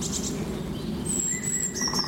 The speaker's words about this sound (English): Oh, that's a green woodpecker. Did you hear it? Green woodpecker. Laughing, they call it. It does sound like they're laughing.